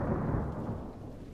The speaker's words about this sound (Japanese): 雷の音も、でも遠そうですけど、